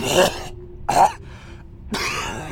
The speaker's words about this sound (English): Each breath becomes more labored until you're sent into a coughing fit.